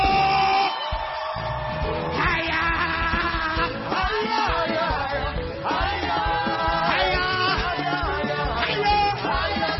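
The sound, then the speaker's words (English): A large crowd screams and cheers continuously in answer to a call to scream if they love Jesus, a dense wall of loud, overlapping voices with rising whoops and yells that stays at full intensity for about ten seconds. “If you love my Jesus, somebody scream.”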